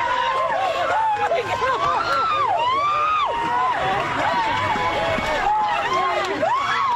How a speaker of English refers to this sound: Here's ABC in Minneapolis. Crowds are celebrating. Let's listen.